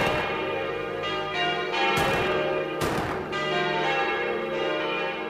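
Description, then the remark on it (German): Church bells ring steadily over the city of Königsberg on the day of a royal coronation, their rich overlapping tones sustained and resonant, with a couple of louder strikes breaking through the dense, continuous pealing. “Der Klang von Pauken und Trompeten liegt über der Stadt, Kirchenglocken läuten und unentwegt werden Geschütze abgefeuert.”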